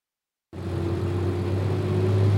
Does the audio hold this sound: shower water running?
no